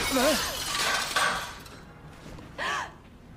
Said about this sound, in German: Als würde ein Fenster eingeschlagen und dann hören wir Musik.